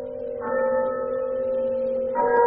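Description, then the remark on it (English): A deep bell tolling the hour rings out with a long, humming sustain, struck once and then again about two seconds later, the tones overlapping and lingering at a steady, moderate loudness with no voices. “But as the bell sounded, light flashed up in the room.”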